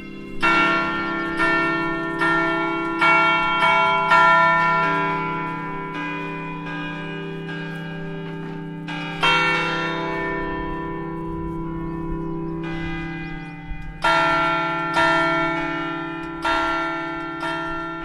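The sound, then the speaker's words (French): Bells of Fontevraud Abbey, fitted with an abat-son sound-deflecting surround, ring out close by in the abbey gardens in a rhythmic sequence of strong, resonant strikes, each tone lingering and overlapping the next, with a steady low hum beneath and no voices. “Et en effet, elles sonnent et je dirais on a été même plus loin, puisque chaque année, un compositeur est invité à composer une sonnerie spécialement pour Fontevraud.”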